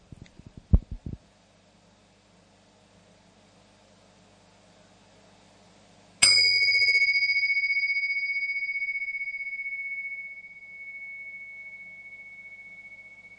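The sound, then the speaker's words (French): A single gong strike rings out partway through, its bright metallic tone sustaining and slowly fading over several seconds, heard alone after a few soft thumps and quiet background noise. “Alors, pour nous inviter tous ensemble, et incluant ces nombreux frères et sœurs, je vais faire sonner le gong, juste pour que nous partagions un moment d'unité, de présence”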